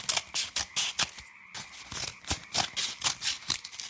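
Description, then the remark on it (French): A steady run of crisp, rasping snips from scissors cutting, about two or three per second, with a brief pause midway before the cutting resumes. No one speaks. “C'est terminé avec les ciseaux.”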